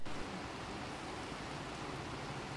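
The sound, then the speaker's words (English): Heavy rain pours down in a steady, dense roar of hiss, constant and enveloping with no breaks, in refugee camps in Bangladesh. No voices are heard. “When it rains in Bangladesh, it pours, and it was pouring for most of the week we spent in the camps.”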